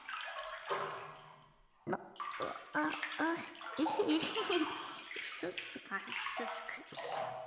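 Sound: splashing water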